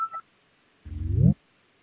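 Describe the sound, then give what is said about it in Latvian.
A parliamentary voting signal sounds as a vote is called on proposal 65 from the Cabinet of Ministers: two quick electronic beeps, then a short buzzing tone that rises slightly in pitch and cuts off after about half a second. No one speaks. “Lūdzu zvanu, balsosim par 65. Ministru kabineta priekšlikumu.”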